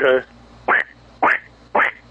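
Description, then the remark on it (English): A 25-year-old man imitates a duck call with only his voice and no device, giving four short, nasal quacks in a quick, evenly spaced series, fairly loud with no other talking. “I'm telling you right now, I can tell that was without an apparatus. That was just with your voice, right?”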